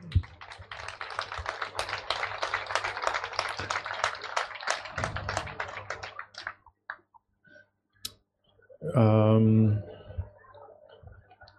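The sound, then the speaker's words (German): An audience claps for about six seconds, a dense, crackly patter of many hands that fades out, followed by a brief loud voice and a few scattered sounds. “Siehst du, jetzt habt ihr es mit rausgebracht, mit eurem Klatschen.”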